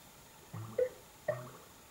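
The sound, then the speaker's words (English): Two short bubbly email notification blips, each a quick rising pop with a watery, droplet-like tone, spaced about three-quarters of a second apart and fairly soft against a quiet background, as emails come in. “You hear that bubbling? That's emails coming in?”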